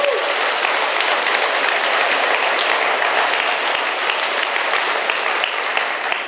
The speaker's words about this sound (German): Und wir sehen die nie, aber sie sind da und deswegen, wenn du diese Predigt im Podcast hörst, fühl dich mal herzlich gegrüßt hier aus Wetzlar und vielleicht können wir einmal klatschen für alle Podcast-Hörer.